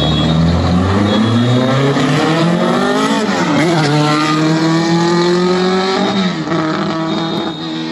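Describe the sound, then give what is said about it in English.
A loud car engine revs hard, its pitch climbing and falling through several gear changes as it roars past, sustained for the whole stretch. “Oh, we got the buzz by. Oh, let's see. This is a little better. I don't know why that car.”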